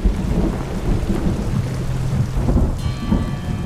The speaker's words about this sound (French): Il est 16 heures, c'est l'heure de la verse quotidienne. Chaque jour, l'eau de pluie ramollit un peu plus la montagne.